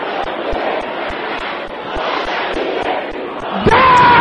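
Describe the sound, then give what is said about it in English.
A large audience at a deliverance prayer service shouts loudly in a dense, continuous roar of many voices, with soft regular thumps underneath and a louder sustained cry rising out of it near the end. “Can I hear you shouting loud and clear?”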